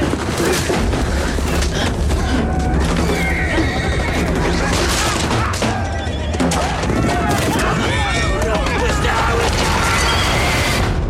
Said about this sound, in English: just to give people some image in their mind of what goes with all that grunting and horse neighing, what's happening in that scene?